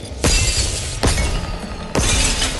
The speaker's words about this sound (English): A light bulb explodes. Glorious waste.